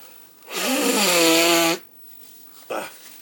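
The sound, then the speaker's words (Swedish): A person with an allergy-induced runny nose gives a loud, honking nose blow lasting just over a second, buzzy and low-pitched with a slight rise, followed by a short, softer sniff-like burst. “Och även då snyta mig.”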